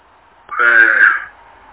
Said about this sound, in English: He was sneezing, Chair.